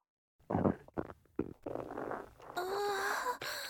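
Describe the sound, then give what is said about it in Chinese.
In a lift, a stomach rumbles in a run of gurgling bursts as someone with a painful stomach is about to pass gas. It then shifts into a louder, steady squeaky, whining tone that holds for about a second before a short final squeak. “哎呀，肚子好痛啊，哎呀，电梯里好臭，好想放屁啊。”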